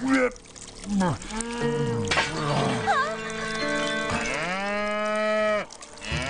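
A cow moos loudly, several long, drawn-out calls following one another with rising and falling pitch, some bellows overlapping, filling the whole stretch.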